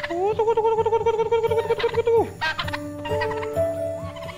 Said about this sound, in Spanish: Alimentar a las gallinas.